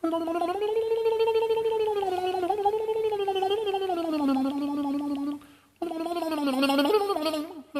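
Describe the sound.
Sir Peter Ustinov's voice mimics a mandolin, holding a sustained, buzzy tremolo tone that wavers up and down in pitch, with a brief break before the rapid trilling resumes.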